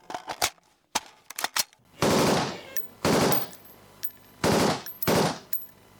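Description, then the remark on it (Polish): Rifle shots fired with live ammunition: a quick string of sharp cracks, followed by four louder, longer blasts spaced about a second apart, each trailing off with a rough echo. “To teraz zróbmy to samo, tylko już z ostrą amunicją.”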